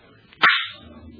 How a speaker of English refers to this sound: Listen. The drone of lawmakers before the president of the Senate raps the gavel for silence.